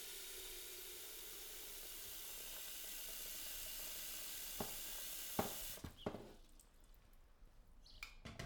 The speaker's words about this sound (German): Ich öffne den Wasserhahn, das Wasser fließt in den Topf.